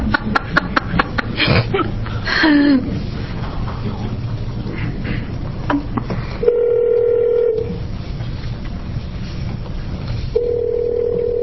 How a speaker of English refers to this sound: You do have a phone system in Ashland, don't you, Senator Atkinson? That's the one I just dialed.